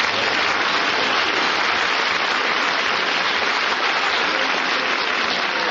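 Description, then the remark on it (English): Sustained audience applause for actor and umpire Gil Stratton, a steady dense crackle of many hands clapping at an even loudness for several seconds with no voices over it. “You're not supposed to applaud, you're supposed to boo.”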